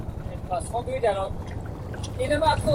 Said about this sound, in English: In an effort to shake off the surveillance, we took a boat out onto Inlay Lake, but soon found we were being followed even there by a military intelligence officer.